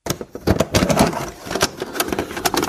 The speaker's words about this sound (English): Oh, that's a VHS. Yeah, there you go. I knew you were going to get that one.